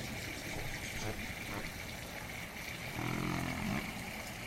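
A small fountain with public water circulating in it gurgles and trickles steadily, a continuous watery wash with a brief low humming swell near the end.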